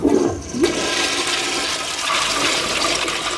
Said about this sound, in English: So for liquid waste, you flush up.